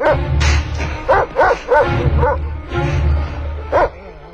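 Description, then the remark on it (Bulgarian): A big dog barks loudly, a series of deep, gruff woofs in an uneven rhythm over a steady low rumble, with no one speaking. “О, какво, голямо куче?”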